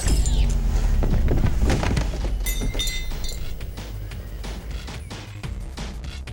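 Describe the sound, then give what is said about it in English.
A heavy explosion in a car park with a deep, sustained rumble, followed by a rapid series of sharp crashes and shattering glass that slowly thin out as the roar fades. “Director Nakamura, there was an explosion in the car park.”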